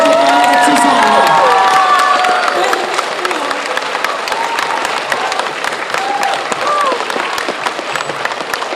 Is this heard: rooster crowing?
no